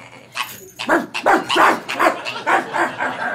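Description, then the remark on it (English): A dog barks at a dog park in a rapid string of sharp, yappy barks, about eight or nine in quick succession, loud and insistent with no talking over them. “Control your dog, please.”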